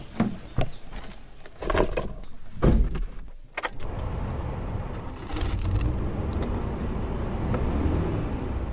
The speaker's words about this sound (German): Der Wagen rumpelt einen Hügel hinauf.